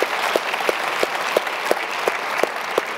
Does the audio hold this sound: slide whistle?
no